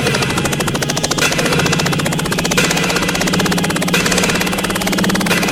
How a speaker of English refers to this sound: Sounds of the chopper.